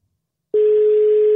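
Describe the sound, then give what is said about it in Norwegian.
After a brief silence, a steady single-pitched telephone ringing tone starts and holds loud and clear to the end, as heard from the caller's side of an outgoing call. No one speaks. “Det ringer I hvert fall.”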